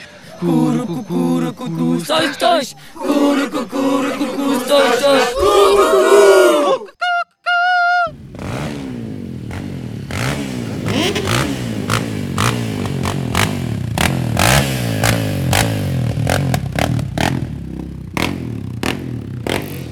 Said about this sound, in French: nous sommes à la grande parade de Cayenne. Il fait, c'est couvert mais il pleut pas, donc c'est cool.